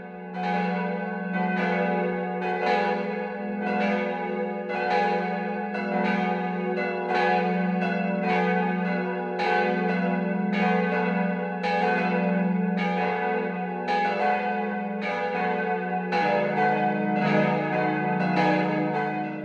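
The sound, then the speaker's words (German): The 12 o'clock midday bells of the Catholic parish church of St. Michael in Winzer, Swabia, peal steadily and loudly, several bells overlapping in a continuous rhythmic ringing with rich, lingering overtones and no voices. “Das Mittagsläuten kommt heute von der katholischen Pfarrkirche St. Michael im schwäbischen Winzer.”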